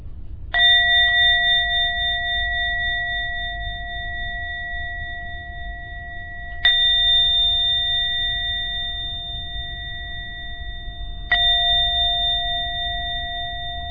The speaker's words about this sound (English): Ring the bell 3 times.